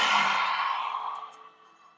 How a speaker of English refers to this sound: Last one. Inhale through the nose, head rises. Exhale, lion's breath.